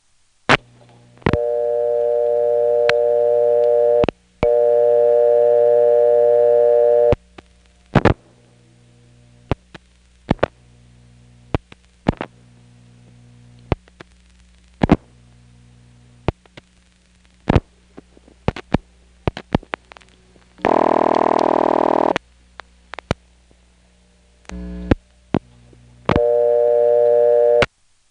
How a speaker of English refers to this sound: Here from Clayton, I'll pick up the phone, put in a dime, dial a local ringing number, and then hang up quickly since a subscriber answer would result in my coin being collected.